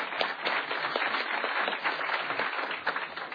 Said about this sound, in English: I think they all deserve a round of applause. Thank you.